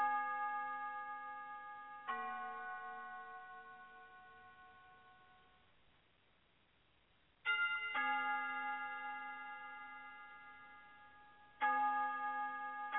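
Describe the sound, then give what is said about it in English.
Bright bell tones ring out in irregular strikes, each chime sustaining with shimmering overtones and slowly fading before the next one sounds, with no voices present. “And let's just imagine these bells being moved by the wind.”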